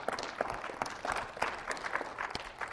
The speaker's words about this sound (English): Appreciated our worship this morning. If you agree with me, just clap a couple times for those folks.